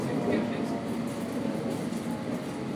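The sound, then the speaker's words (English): A London Underground District Line train to Edgware Road rumbles steadily between stations, a continuous loud roar of wheels and motor with muffled voices faintly beneath it. “This is a District Line train to Edgware Road.”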